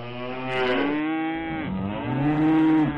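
Cows lowing loudly in a barn, two long, drawn-out moos following one another with a slight pitch glide, one call rising as the other fades.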